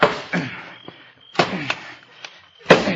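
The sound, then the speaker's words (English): A shovel strikes the lock of a strongbox again and again to knock it off, with heavy clanking blows at an uneven pace, some harder than others, each leaving a brief metallic ring. “Knock the lock off with the shovel.”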